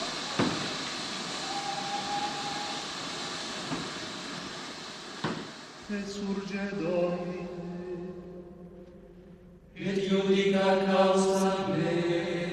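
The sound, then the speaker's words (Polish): A train rumbles with sharp metallic clanks, then grinds to a stop under emergency braking as a loud, sustained brake squeal and hissing rise and swell toward the end. “Co się stało? Stoimy. W szczerym polu? Ktoś pociągnął za hamulec?”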